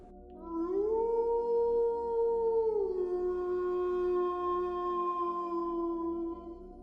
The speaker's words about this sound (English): When another gnarled howl erupted from somewhere to their backs, each of them turned their heads with alarmed expressions etched across their faces.